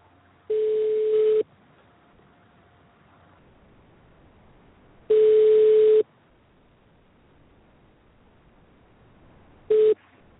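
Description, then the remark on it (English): A phone ringback tone sounds three times, each steady, mid-pitched buzz lasting about a second with long silent gaps between, the last one cut short. No one speaks. “Oh, it's ringing.”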